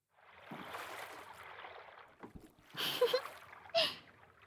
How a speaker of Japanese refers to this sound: 星の運河は漕いで漕ぐと水の音が聞こえてくるんです。ね、素敵な音でしょ。この音をたどっていけば、いずれ白川が見えてきます。